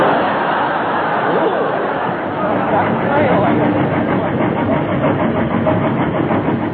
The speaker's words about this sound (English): Oh, and through the night the snowplow train was racing down the line. A lonely spectator who saw it pass looked up and said, Fine.